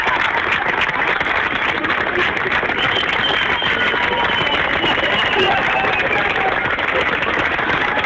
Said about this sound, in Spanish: hablamos del año 2010, cuando esta gente se acerca, que son auditores de la radio, y empiezan, y a medida que se acercan al edificio donde se encuentran las instalaciones de la radio, empiezan a aplaudir.